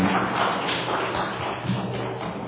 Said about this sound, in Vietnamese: Dâng lên Chúa mẹ một tràng pháo tay ha, dâng lên Chúa và Đức Mẹ một tràng pháo tay tạ ơn Chúa, cảm ơn mẹ, cảm ơn chị.